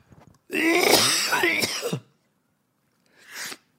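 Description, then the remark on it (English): A raspy bout of throat clearing and hacking lasts over a second, followed after a pause by one shorter cough. No talking is heard. “You're making me have a coughing fit.”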